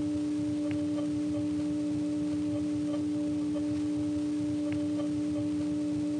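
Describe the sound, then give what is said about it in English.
A steady electrical hum with a sustained tonal howl, droning continuously under a hissy, noisy line, with faint periodic clicks and no voices. “They use a 3700 Hz tone for answer supervision, and that's actually what's responsible for this howl we hear in the background.”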